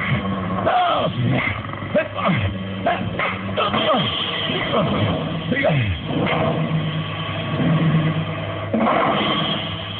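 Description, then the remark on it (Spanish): A pack of wolves snarl and growl ferociously as they lunge at a man in a loud fight, overlapping yelps and rasping growls churning continuously for about ten seconds with barely a pause. “La manada de lobos no espera más y se lanzan hacia Caribán, quien está dominando al primer atacante”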